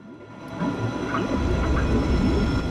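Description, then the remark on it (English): Bubbles gurgle and rise underwater around a submersible moving forwards in dark water, with warbling, wavering tones over a deep, steady rumble that swells after the first second and stays fairly loud, with no voices. “Bubbles rise around it. Oh, I love that sound.”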